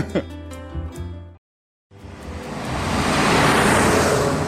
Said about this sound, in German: Eine vielbefahrene Straße durchschneidet das ansonsten ruhige Dorf. Die Kaiserswaldstraße. Lkw vom nahegelegenen Kieswerk machen sie zu einer lauten Trennlinie der zwei Ortshälften.